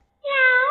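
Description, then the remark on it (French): A man imitates a cat with a single drawn-out meow, a clear harmonic wail starting after a short silence and rising slightly in pitch at the end, fairly loud. “Le chat.”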